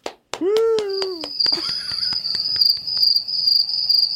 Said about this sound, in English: I love the cricket.